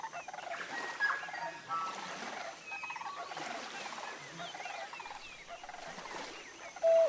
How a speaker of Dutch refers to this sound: Laat je meedrijven op de klanken, het fluiten van de vogels.